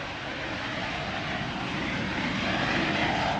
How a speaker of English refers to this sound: As we pull closer, the flare starts to take on the character of a jet engine.